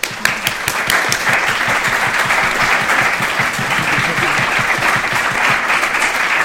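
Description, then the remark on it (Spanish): An audience in Rome claps steadily after a talk ends, a dense, sustained burst of many hands that stays loud and even for several seconds with no voices standing out. “Vaya, si te aplaudan en Roma.”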